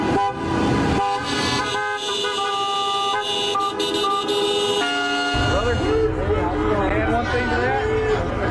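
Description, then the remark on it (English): Car horns honk in long, overlapping blasts for several seconds, loud, then a crowd of voices shouting and chanting rises as the horns continue in the background, at a pro-Trump protest against the state governor in Michigan. “Protest sounds, honking horns, chants, and the governor's response were caught on camera.”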